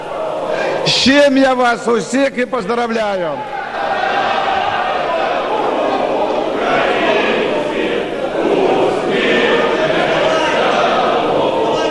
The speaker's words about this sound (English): So they're cheering and singing the national anthem in the Ukrainian parliament.